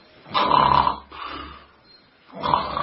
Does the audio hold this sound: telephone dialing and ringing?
no